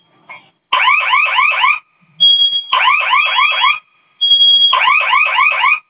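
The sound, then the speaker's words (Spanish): A security system's fire alarm, which will not switch off after the code is entered, blares in three loud bursts of rapid, warbling electronic chirps, each about a second long, separated by brief pauses and steady beeps, with no voices. “No se apaga la alarma, ¿verdad?”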